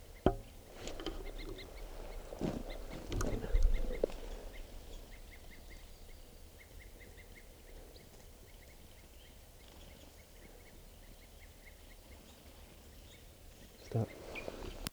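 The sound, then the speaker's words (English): Wild birds not yet captured give faint alarm calls up in the treetops: short, repeated notes in quick series over quiet outdoor ambience, with some rustling and knocks at the start and end. “There's still some wild birds not captured up in the treetops, and they were giving alarm calls, and now they're grading into tubes.”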